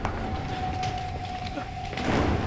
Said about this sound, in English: The door opens and Jack emerges with his hands in the air.